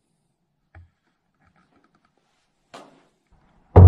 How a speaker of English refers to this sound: Hello? Yeah, they're knocking in. Hello? Then again, he hears it. This time, louder. That's enough for him. He leaves the house.